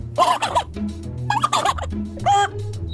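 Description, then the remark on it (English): A person's voice imitates a turkey gobble in three loud, warbling bursts spaced about a second apart, with no other talking. “How about some birds? Well, let's see. Turkey?”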